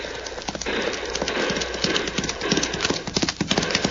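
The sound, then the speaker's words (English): Rapid hoofbeats of a horse ridden fast, galloping past on a trail, a steady, loud drumming clip-clop throughout, with faint voices and a brief whinny in the background. “Matter me that a fast horse that hombre rides, Cisco.”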